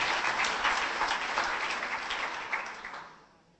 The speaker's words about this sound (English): Big round of applause for you all. Great, well done.